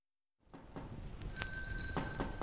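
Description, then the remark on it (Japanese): A small door bell on a door is rung in place of knocking, jingling with bright, high, sustained ringing tones that begin about a second in, over a low rumble and a few soft clattering bumps, fairly quiet throughout. “少し戸を叩いたりドアをなこの鈴を鳴らしたりして。”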